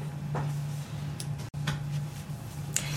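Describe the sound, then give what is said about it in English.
Heavy mechanical ticks from a historic turret clock, installed in 1559 at the Church of St John the Baptist in Winchester and recently restored to working order; sharp clicks recur every half second or so, ringing over a steady low mechanical hum with no voices. “Ancient clock ticking again.”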